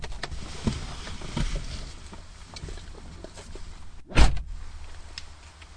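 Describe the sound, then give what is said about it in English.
A single solid thump of a car door shutting as the driver and passenger swap seats, loud, breaking a steady low rumble of background noise with a few faint knocks and rustles earlier on. “Okay, so make sure it's safe and let's swap over. Okay. Okay, move to close the door behind you.”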